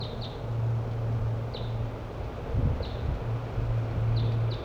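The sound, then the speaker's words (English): Brief, high-pitched chirps of wild birds coming in sound sporadically, about six in all, some in quick pairs, over a steady low hum and wind-like rustle. No one speaks. “I believe we got wild birds coming in now.”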